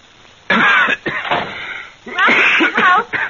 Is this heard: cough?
yes